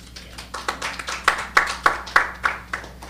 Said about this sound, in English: If you save up that applause later, it'll really add up to something.